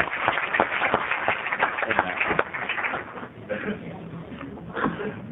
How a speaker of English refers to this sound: So let's start this process off right with a great big round of applause for